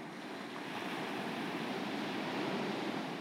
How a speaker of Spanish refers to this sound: Y no hay mucha gente en la playa. ¿Puedes escuchar las olas del mar?